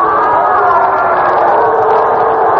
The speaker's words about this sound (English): Fans are booing one of the special policemen here at the park. One of the kids leaned over the rail to get a foul ball.